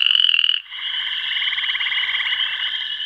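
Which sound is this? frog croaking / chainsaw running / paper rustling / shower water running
frog croaking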